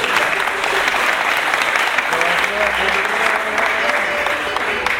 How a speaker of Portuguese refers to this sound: Primeiro, receba uma salva de palmas do povo da vela.